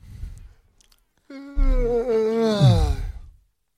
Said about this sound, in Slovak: Jakože máme taky, to máme taky úvod, že zíváš?